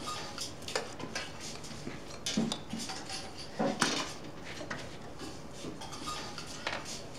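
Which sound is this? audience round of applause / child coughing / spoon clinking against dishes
spoon clinking against dishes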